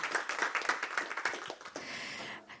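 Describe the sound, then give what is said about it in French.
A small audience claps for a reading, a dense patter of many hands that holds steady for a couple of seconds before thinning out near the end, heard at moderate loudness without any voices over it. “Moi, je crois qu'on peut l'applaudir pour cette lecture.”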